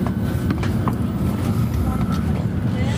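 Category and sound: vehicle, train rolling on rails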